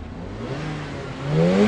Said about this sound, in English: Revving up in the car park